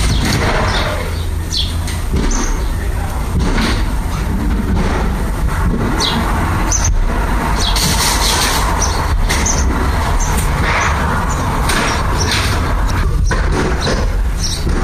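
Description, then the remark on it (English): Loud, continuous noise of the Property Brothers demolishing the house next door: a heavy engine-like rumble runs throughout, broken by scattered sharp bangs and crashes. No one speaks. “Like, all day, every day, I have to put up with noise coming from the house next door because it sounds like they're demolishing the house.”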